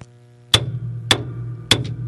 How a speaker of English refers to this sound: Jake will just give me a chance to bang the gavel when we get close to the top of the hour